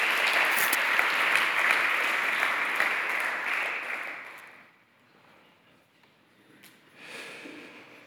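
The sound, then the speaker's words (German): A crowd claps steadily and fairly loudly for about four seconds, applauding the volunteer children's program staff, then the applause fades to a faint room murmur, with a brief soft rise near the end. “Sie hören es jetzt nicht, aber gebt trotzdem den Kindermitarbeitern jetzt auch einen Applaus.”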